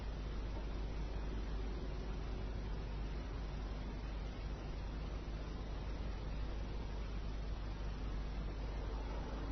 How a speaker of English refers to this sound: In the background, you hear the traffic, you hear a siren, it's a sense of hearing.